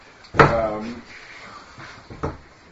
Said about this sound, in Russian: Давайте закроем дверь, потому что так дует.